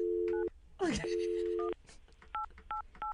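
Short electronic keypad beeps sound at an uneven pace, several in a row, over a steady low dial tone that drops away partway through, with a brief warbling sweep early on, as a customer service number is dialed on a phone whose keys are sticky.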